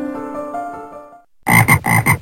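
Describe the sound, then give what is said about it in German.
A tonal musical phrase fades out, then a frog croaks loudly in a quick run of four or five raspy, pulsing calls. “Der Frosch auf seinem grünen Blatt liegt ganz gemütlich auf der Lauer.”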